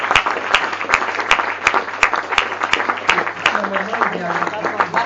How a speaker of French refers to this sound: La règle sera qu'on passe un micro dans la salle pour poser des questions, mais la règle veut qu'on vous applaudisse pour le témoignage que vous nous apportez.